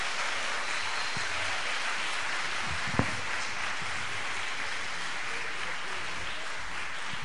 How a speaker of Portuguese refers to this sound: Aplauda ao Senhor aí.